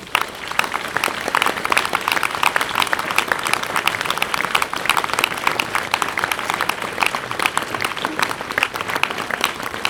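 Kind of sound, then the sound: crowd, audience applause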